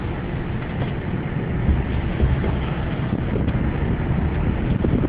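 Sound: wind blowing outdoors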